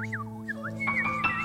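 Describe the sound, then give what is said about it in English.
A songbird in an aviary sings a quick run of swooping, whistle-like notes, rising and falling before a few higher, sharper chirps, heard over a steady low mechanical hum. “The sound, beautiful sound of songbird music is in the air.”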